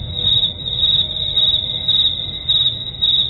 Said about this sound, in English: I turned off everybody's microphones so you could just bask in my cricket.